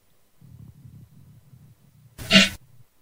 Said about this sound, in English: Oh, Lord, what a fart. Okay. Thank God we ain't got that going on.